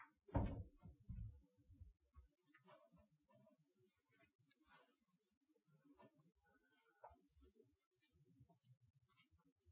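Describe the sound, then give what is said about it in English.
A door swings shut with a single heavy thump right at the start during a Bible teaching, then it settles into quiet with faint shuffling and murmured voices in the background. “can you close the door?”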